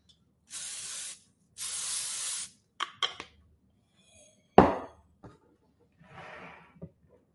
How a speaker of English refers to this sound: All right. Let's spray it.